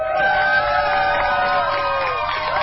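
A crowd cheers and whoops continuously as a gay pride rainbow flag is raised over the Wisconsin state capitol for the first time, for LGBTQ month. Many voices blend into a loud, steady roar with scattered higher shouts rising above it.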